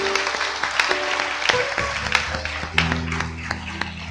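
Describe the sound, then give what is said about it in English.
A crowd applauds steadily, many hands clapping at once in a dense, sustained patter with a few sharper claps standing out, lasting several seconds. “If you prayed that prayer for the first time or renewed your commitment, we say, welcome to the family of God. Let's give a hand clap.”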